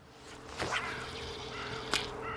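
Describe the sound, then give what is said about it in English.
Two quick, high-pitched swishes of a fly fishing line being cast through the air, the first around half a second in and a sharper one near the end, over a soft outdoor background hiss. “The sound of a good cast should be a swish, not a swoosh.”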